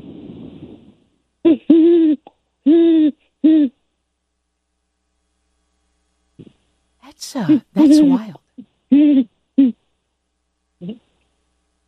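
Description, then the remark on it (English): A person imitates owl hoots to talk to owls: three evenly spaced hoots, a pause, then a busier run of hoots at similar loudness, with a short spoken remark mixed in. “Oh, okay, let's hear you talking to the owls.”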